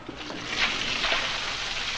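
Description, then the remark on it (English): Steady rushing water pours continuously into a room whose floor is not draining, a dense, hissing gush that stays constant for the whole stretch, with no voices over it. “He's going to fill this room with water and try and drown us.”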